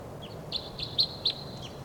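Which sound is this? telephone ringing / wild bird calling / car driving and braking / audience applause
wild bird calling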